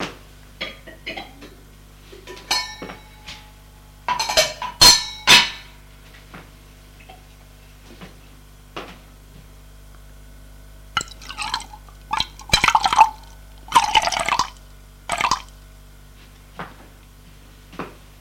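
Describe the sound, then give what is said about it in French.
A cook pours water from a saucepan into a coffee maker in a few splashing bursts, fairly loud, with light clinks and handling clatter in between. No one speaks. “La cuisinière prend la casserole d'eau pour la verser dans la cafetière.”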